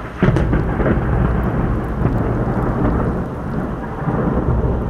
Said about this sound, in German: Ausnahmsweise ist dieser Knall keine Bombe oder Rakete. Es ist ein Gewitter, das über der Hauptstadt des Jemens niedergeht.